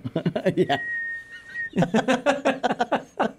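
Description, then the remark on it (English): A person whistles one steady, high note for about a second, imitating wind whistling through a hole in a man's head. The whistle sits in a pause between stretches of talking. “That's why I covered up with a hat. So it doesn't whistle.”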